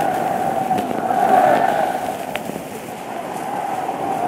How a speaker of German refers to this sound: Karl von Horten steht im Wagen und grüßt. Der Jubel der Zehntausende schlägt ihm entgegen. Diese Reportage vom August 1938 illustriert Ungarns Beziehung zu Nazi-Deutschland.